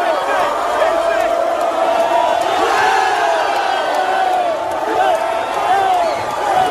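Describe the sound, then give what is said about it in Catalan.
A dense crowd of Manchester City fans cheers and shouts continuously in the streets of Manchester in the rain as the team bus passes with Haaland lifting the cup, a loud, sustained roar of many voices with rising yells and whoops throughout. “Aquests crits que ara escoltàvem corresponien a la imatge del bus arribant, passant per un dels carrers amb Haaland, aixecant la copa al seu pas en aquest punt de la rua.”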